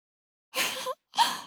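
A sleepy older sister gives a small, cute yawn in two breathy bursts, a longer airy exhale followed by a shorter one with a faint voiced squeak. No speech.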